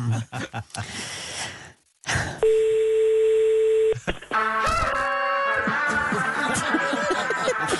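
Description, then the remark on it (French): After some breathy sounds, a steady electronic telephone tone holds for about a second and a half, then gives way to busy, tinny music-like sounds over the line, as a call is placed to a boss at the cement firm Lafarge. “Mais si vous voulez, on va appeler le patron avec qui on était hier.”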